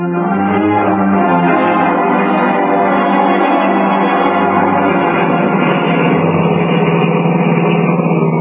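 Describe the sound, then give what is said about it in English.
A car engine runs steadily and loudly, a dense, unchanging droning hum with a slight metallic ring, continuous throughout with no voices over it. “Notice anything new and different? In the car here?”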